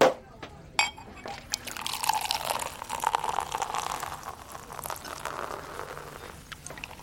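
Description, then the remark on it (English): Two glasses of champagne are poured steadily for several seconds, a bright fizzing, bubbling hiss that swells and then slowly fades, with a couple of soft clinks at the start. “Two glasses of champagne, please.”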